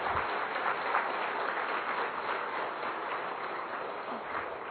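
Sustained applause from an audience after a spiritual talk on the Bhagavad Gita and karma yoga, a dense, steady wash of many hands clapping at once, filling the whole stretch at an even level without pauses or voices.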